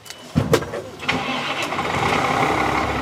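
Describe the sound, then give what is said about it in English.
A car engine cranks with a few quick, uneven bursts, then catches after about a second and settles into a steady, loud, rumbling idle with a broad hiss, as an ice rescue team drives to frozen Lake Monona for training. “As part of their training, the team drives to frozen Lake Monona, to the spot where the Yahara River flows into it.”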